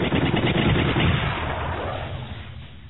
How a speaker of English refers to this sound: Engines wailing, they dove into the thickest of the dogfight, firing as fast as their targeting computers showed green.